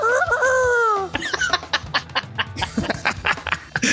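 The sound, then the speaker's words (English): A rooster crows once, loud, its drawn-out call lasting about a second, then gives way to a rush of people laughing and chattering. “So, Rogue Rooster Media Group, where the cocks go to crow.”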